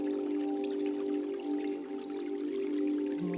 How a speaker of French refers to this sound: D'un côté, vous pouvez entendre un ruisseau qui vient du haut de la montagne et alimente le lac.